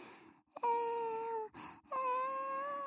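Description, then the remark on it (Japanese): A person imitates a crying baby with two long, steady wails separated by a short breathy pause, loud, with no other talk. “って泣いてママたちに教えてくれるんだよね。”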